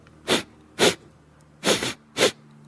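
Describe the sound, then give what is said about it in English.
Four quick, breathy nasal sniffs, grouped as two pairs with a short pause between them, and no talking. “It's got to be fairly good because that was a lot of sniffs.”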